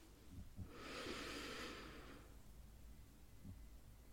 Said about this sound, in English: Step 1 is to breathe in, counting for 4. And I'm actually going to do this here right now. Why not? So breathing in, counting to 4.